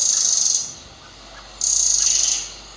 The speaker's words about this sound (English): There's a good few birds and stuff around, just it's nice and like gives a bit of peace.